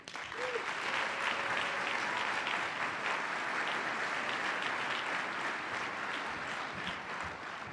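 A crowd claps steadily and continuously, a dense, even wash of applause from a large audience that holds its level for several seconds before easing slightly toward the end.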